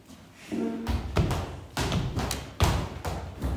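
A series of heavy, low thuds and bumps as a hedgehog in a story trips over a root and falls to the ground, arriving in uneven bursts over a few seconds with a faint rustle between impacts.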